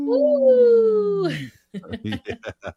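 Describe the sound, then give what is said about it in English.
A person lets out one long, loud wolf-like howl for a Howling for Wolves segment on Native Roots Radio. The howl holds steady and then slides down at the end, followed by a few quick bursts of speech. “We are Howling for Wolves right now. Ho!”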